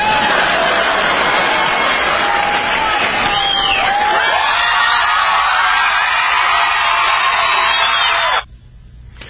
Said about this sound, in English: And, yeah, the crowd went wild.